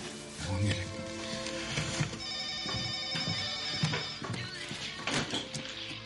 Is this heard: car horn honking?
no